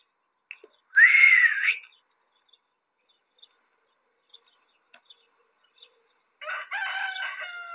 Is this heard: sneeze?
no